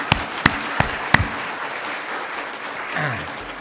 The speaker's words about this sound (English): Let's give God praise. Let's clap. That's good.